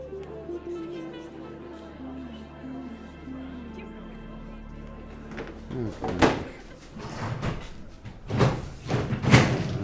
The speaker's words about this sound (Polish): Pan Leszek wolno przesuwa krzesła